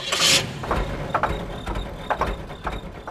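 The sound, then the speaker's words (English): A car engine cranks and catches with a brief bright burst, then settles into a steady low idling rumble with soft periodic clatter, no voices. “But a car's engine is also an example of how we've controlled fire.”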